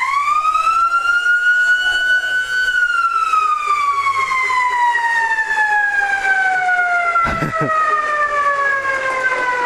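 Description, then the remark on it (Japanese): A loud, sustained stadium siren wails continuously to mark the end of a baseball game, its pitch rising slightly then slowly falling, with strong harmonic overtones; a brief clatter cuts in near the end while the tone holds steady. “試合終了と同時にものすごい音でサイレンが鳴りますけど気をつけてくださいね。”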